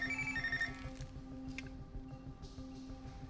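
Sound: phone ringing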